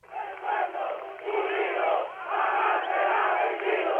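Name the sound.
crowd chanting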